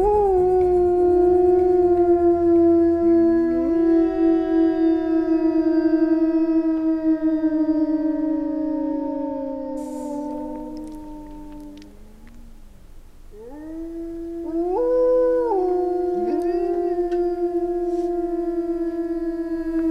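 Several wolves howl together in long, overlapping sliding tones, a chorus that fades briefly before rising again with higher wavering voices, loud and sustained with no talking.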